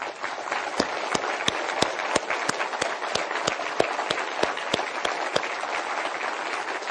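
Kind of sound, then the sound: crowd, audience applause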